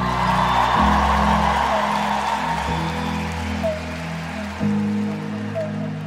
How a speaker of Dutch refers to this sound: En mag ik ook nog een heel hard applaus